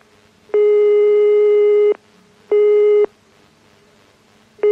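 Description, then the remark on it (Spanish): A telephone ringback tone sounds as a loud, steady electronic beep in repeated bursts, one long and then shorter ones, separated by brief silences, as a radio program calls a home on Calle Capitán Quesada; no voices. “¡Qué rapidez! Primer tono.”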